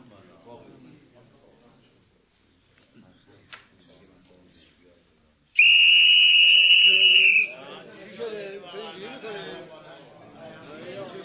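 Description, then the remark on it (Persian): A single long, shrill blast from a borrowed whistle at a club rings out loud for about two seconds, cutting through quiet background talk; voices and chatter pick up right after it stops. “ببخشید سوتتونم لطفاً.”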